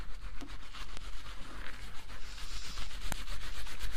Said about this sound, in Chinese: 好，那咱们都安静，都别讲话，让我好好抓你的头。